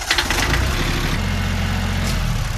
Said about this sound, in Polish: w drogę wyruszył ze swoimi podopiecznymi, jadąc niewielkim ciągnikiem ogrodniczym.